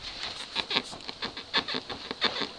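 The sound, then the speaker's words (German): A wooden floor in a house creaks and squeaks under shifting footsteps as someone tests how it creaks, giving a string of uneven, high-pitched groans and soft thuds with no voices. “versucht einfach aus, wie unser Boden hier knarrt.”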